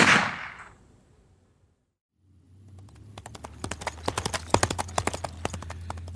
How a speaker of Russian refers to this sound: Нет, эта чертова лошадь не подойдет ближе.